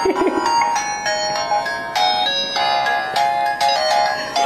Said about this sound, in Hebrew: טלפון.